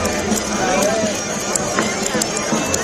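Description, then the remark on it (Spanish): The scissors of 30 octopus cutters snip in quick, irregular succession as they cut thousands of pieces of octopus at a festival for a world record, each cut a crisp metallic click, over a steady wash of bagpipes, crowd chatter and bustle. “Es el sonido de las gaitas y de fondo, acompañado ese chis-chis que escuchamos, es el no parar.”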